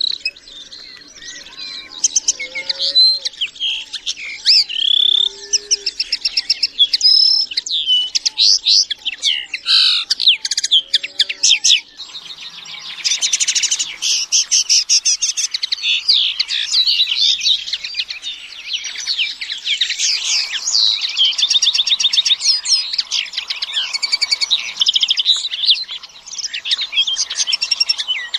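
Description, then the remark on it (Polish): A common linnet sings a continuous, rapid twittering song of varied chirps and trills, clear, lasting throughout with no voices present. “Ja sam mam wokół naszego domu i krzewy, i drzewa, i regularnie makolągwy się w takiej kępie róży rozmnażają.”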